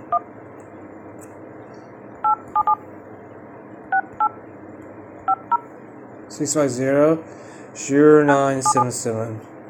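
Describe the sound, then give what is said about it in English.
A series of short telephone keypad tones beeps in quick clusters, each a crisp dual-pitch chirp, as a United States toll-free number is dialed to check whether it is still active, followed by a person talking over a couple more dialing beeps near the end. “I'm going to check and see if this number is still active, and I will post this.”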